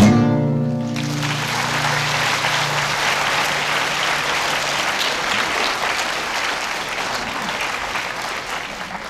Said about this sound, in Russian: У вас очень хорошо получаются аплодисменты